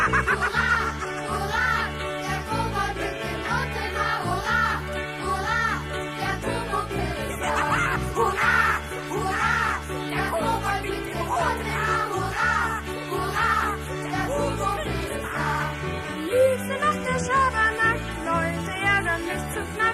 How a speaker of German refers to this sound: Vogel, das ist Vogel